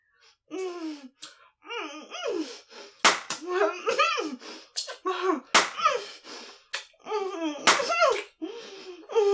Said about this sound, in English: Harder. Slap me harder. I can take your anger.